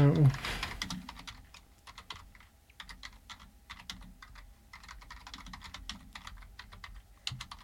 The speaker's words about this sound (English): I can't see what I'm typing, so I think that was all correct, right?